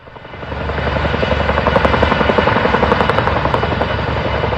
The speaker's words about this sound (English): Sounds there from journalist Kara McKinley of choppers pulling water out of the Chatfield Reservoir today to fight the Quarry Fire.